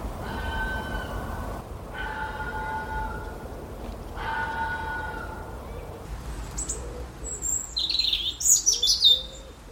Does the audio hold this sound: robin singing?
yes